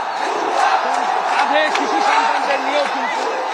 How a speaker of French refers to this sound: La foule en colère défile en chantant « Abat la dictatrice » et force les barrages policiers, bien souvent incapables de contenir la rage qui se déchaîne contre les symboles du régime.